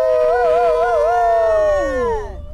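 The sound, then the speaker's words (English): Several people wearing plush wolf hats howl together like wolves to cheer on a teammate in the dark, a loud sustained chorus that wavers in pitch and then slides downward as the voices trail off, with no talking. “We're howling and wearing plush wolf hats because our team is named Wolf Taco.”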